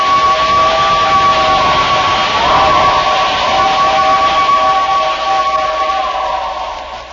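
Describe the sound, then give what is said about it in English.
A passing train, the 547, roars through town on its way to the city in 1896, with a steady, loud rush of noise and sustained horn-like tones held above it, the sound easing and fading over the final seconds. “In 1896, when there weren't too many alarm clocks around, a lot of folks woke up to the sound of the 547 as it flashed through town on its way to the city.”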